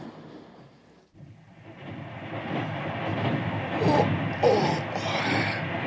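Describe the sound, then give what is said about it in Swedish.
A train to London rolls along the rails with a dense, steady rumble that swells gradually louder, with bright hissing bursts near the end. No one speaks. “Han tänker ta London-tåget precis som vi.”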